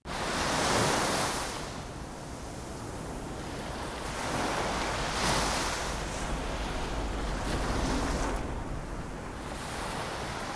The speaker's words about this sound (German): Unablässig bläst heute ein bissiger Wind von See herein. Allerlei Schmutz treibt auf dem Wasser und legt sich in einer geschwungenen Linie dort ab, wo die Wellen aufhören zu rollen.